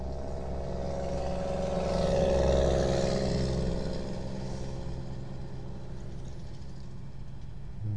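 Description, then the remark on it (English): Steady outdoor traffic rumble drifts in through the rolled-down window of a parked car with its engine turned off, in hot weather, swelling as a vehicle passes by, then settling back into a constant low wash of road and engine noise. “Here, let's try rolling down the window. See if we get some outdoor sounds coming in.”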